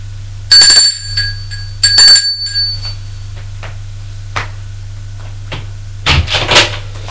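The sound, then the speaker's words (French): A doorbell at a son's apartment door, rung by his mother, chimes twice in quick succession, bright ringing tones fading out, followed by faint clicks and then a rattling door opening, all over a steady low hum. “Et va sonner à la porte de son fils.”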